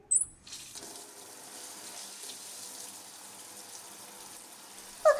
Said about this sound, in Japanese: シャワー冷たかった。ごめん。そろそろ大丈夫かな。